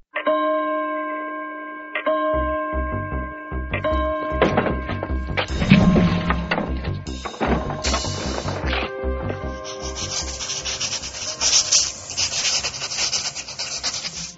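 White chalk scrapes and taps across a blackboard in quick, scratchy strokes as a teacher writes the large characters 水从哪里来 ("Where does water come from"), mixed over a steady musical tune with a pulsing low beat; a brighter hiss of rubbing builds toward the end.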